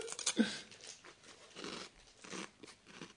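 Crunchy chewing of ice cream topped with chuno sauce, with a loud bite near the start followed by a steady series of softer, irregular crunches and mouth sounds; no one talks.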